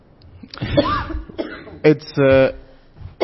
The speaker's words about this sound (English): And then she coughed.